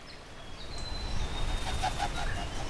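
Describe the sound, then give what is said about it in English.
A kereru (New Zealand native wood pigeon) makes noisy wing beats in a New Zealand forest: a short run of soft, breathy whooshing pulses, fairly faint over a low rumbling background, with thin, high bird whistles threading through. No one speaks. “They fly with a noisy wing beat, a sound that's iconic in New Zealand forests.”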